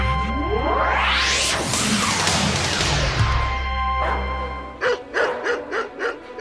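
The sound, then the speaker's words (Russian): Several angry dogs on leashes bark loudly and repeatedly, baring their teeth and straining at their leashes, with rough growling mixed in, over a dense noisy background in Nazi-occupied Warsaw; the last seconds bring a clear run of sharp, rhythmic barks. “Ой, какие злющие собаки! Скалятся, рычат, с поводков рвутся.”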